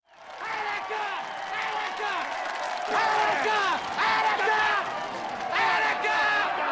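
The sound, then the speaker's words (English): A large crowd of onlookers cheers Al Pacino's character in the 1975 crime drama Dog Day Afternoon, in a dense, continuous roar, with rising whoops and yells swelling in waves over several seconds at a steady, fairly loud level. “They cheer him because there was sympathy for the inmates in the Attica uprising 4 years earlier.”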